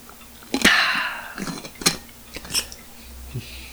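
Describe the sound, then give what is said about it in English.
A big swig of water: a sharp clack, then a run of wet gulps and swallows with soft clicks, moderately loud and without speech, ending in a faint thud. “There's my nice big swig of water there.”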